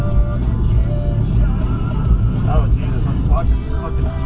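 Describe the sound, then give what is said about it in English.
A car engine rumbles low and steady as the vehicle crawls over rough off-road ground on a steep hill, with faint muffled voices briefly in the background. “Just ride the brakes nice and hard all the way down.”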